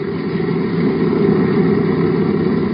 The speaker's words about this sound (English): One engine looks all right, but it doesn't sound so good. For the past few days, the engines haven't been working so well. Looks as though the human being is going to outlast the engines.